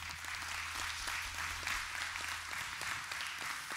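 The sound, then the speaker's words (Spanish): An audience applauds the mothers on Mother's Day in a steady, dense patter of many hands clapping, sustained at an even level throughout with no voices standing out. “Miren, un aplauso, sí.”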